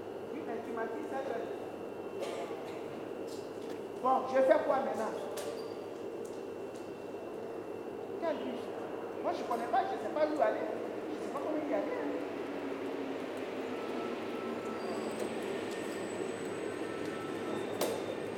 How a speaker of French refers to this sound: Donc voilà, là je suis dans le métro.